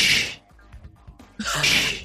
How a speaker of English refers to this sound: That's doors opening and closing.